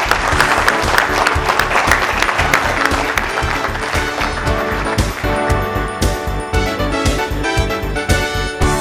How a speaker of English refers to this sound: Great. Let's give him a big round of applause.